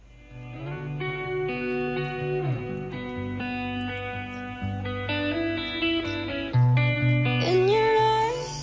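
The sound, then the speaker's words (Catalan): Instrumental pop music with sustained synth chords and layered harmonies, playing at a steady, moderate volume with a rising melodic swell near the end and no voices. “Mentre anem escoltant la cançó, aquesta cançó que avui tenim de la …”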